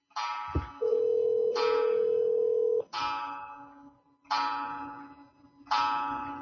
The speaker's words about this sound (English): Fuck, there goes my clock. Shit.